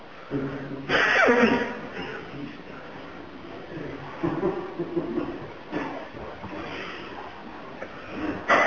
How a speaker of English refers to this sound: Now you have to blow my nose.